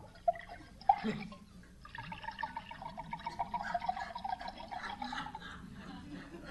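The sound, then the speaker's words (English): Two sharp glassy clinks, then a steady gurgling stream of drink pours into a glass to top it off for several seconds, its tone holding bright and even before easing off. “Tom, would you mind topping off my glass?”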